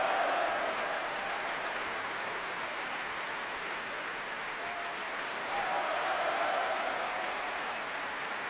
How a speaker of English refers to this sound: that huge cheer from the audience here in the Royal Albert Hall was, again, for Katarina de Lyman.